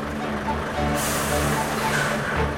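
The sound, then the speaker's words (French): A fish delivery truck arrives, its engine rumbling low and steady, then a loud hiss of air brakes bursts out about a second in and slowly fades as the truck keeps idling. “On vient de nous annoncer que le camion arrive.”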